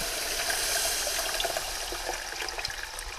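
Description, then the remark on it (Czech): Water pours steadily into a pot of hot, freshly fried light roux made with flour and butter. About one and a half litres of water is added while making soup, giving a continuous rushing, sizzling splash that lasts a few seconds without a break. No one speaks. “Hotovou líšku zalijí litr a půl vody.”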